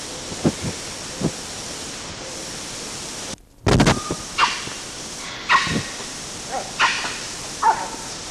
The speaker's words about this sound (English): A couple of chiss and then meow barks from two different individuals. One of those who gave the meow bark had previously chissed it. And the other one only gave the meow bark. Same date as preceding. 10:38. Both vocalizers are presumed to be males.